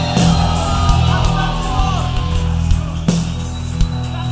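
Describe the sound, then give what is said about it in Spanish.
An audience at a morning church service applauds and shouts together in a loud, sustained roar of cheering, with scattered yells and a few sharp bursts rising above the dense crowd noise. “Así que dale un fuerte aplauso y un grito de gloria.”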